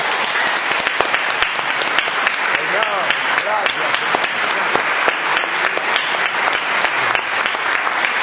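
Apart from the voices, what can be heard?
audience applauding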